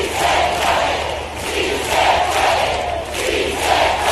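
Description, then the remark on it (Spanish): A large crowd at a Podemos rally chants "Sí se puede" in unison, acclaiming Pablo Iglesias, loud and rhythmic, the massed voices swelling and dipping with each repetition roughly every second, with no single speaker standing out. “En su reaparición, Pablo Iglesias ha sido aclamado entre gritos de «Sí se puede»”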